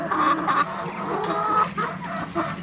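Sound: chickens clucking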